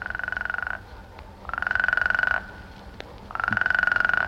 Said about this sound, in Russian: Древесная лягушка Квакша. Ей одной скучно.